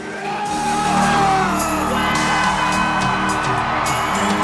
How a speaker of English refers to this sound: Champion of the world, ladies and gentlemen! The crowd's gone mad. Incredible! Unbelievable! Unbelievable!